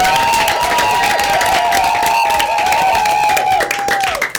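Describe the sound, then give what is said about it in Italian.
A crowd at a live Radio Dinamo broadcast breaks into loud, dense applause and cheering, steady clapping throughout, with a long high whistle-like tone held above it before everything tapers off at the end. “Quindi facciamoci un applauso anche qui in diretta.”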